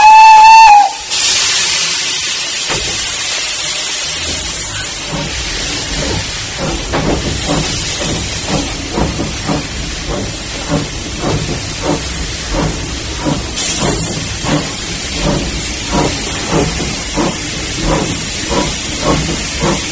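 A steam locomotive coming off shed to take on more coal and water lets out a short whistle blast, then loud steam hiss fills the air as steady rhythmic chuffing builds, with no voices.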